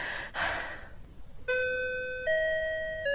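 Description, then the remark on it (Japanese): A school chime rings out at an exam venue after a brief rush of breathy noise, sounding three clear, sustained tonal notes in a descending-then-rising sequence, each one ringing on steadily. “もう少しというところでチャイムが鳴ってしまった。”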